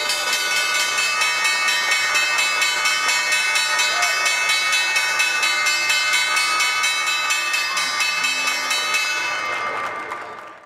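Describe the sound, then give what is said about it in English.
A stock exchange closing bell rings continuously for about ten seconds, a loud, steady, rapid metallic clatter with bright overtones, then cuts off and fades at the end. “We'll hold on to 5,000 today in the S&P as the bell rings.”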